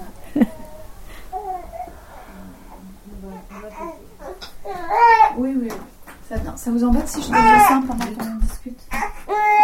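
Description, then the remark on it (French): A newborn baby babbles and fusses with rising, whiny vocal bursts while adults talk quietly over and around the little voice. “Il va falloir que j'aille voir mon bébé.”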